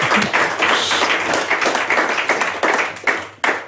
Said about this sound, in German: Das möchte ich mit einem Applaus jetzt festhalten. Wow.